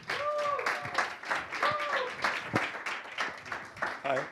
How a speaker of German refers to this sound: Und es wäre schön, wenn wir ihn mit einem herzlichen Applaus begrüßen können.